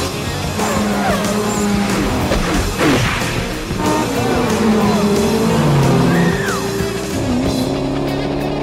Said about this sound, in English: And then this race car scene happens, and it's so good. Oh, my God.